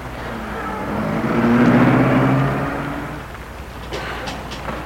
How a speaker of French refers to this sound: Elle regarde pour voir si la voiture des Franc-Blanc est bien partie.